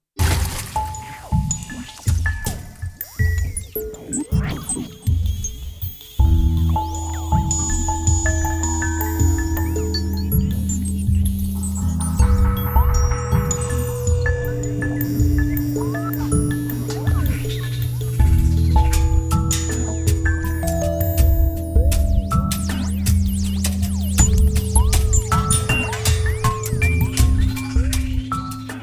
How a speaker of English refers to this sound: A genuine question about that, though. Do you think seriously that once you've got past the fact that, hey, we've made a record with a washing machine, that there's actually more to it?